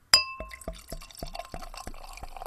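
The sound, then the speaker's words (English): A beer glugs out of a bottle into a glass, opening with a bright glassy clink followed by a quick, steady run of gurgling pulses as the liquid splashes in. No one speaks. “So upon pour, ooh, got some particulates floating around in there.”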